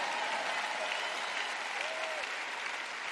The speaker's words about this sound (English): Good, I got three people clapping over here.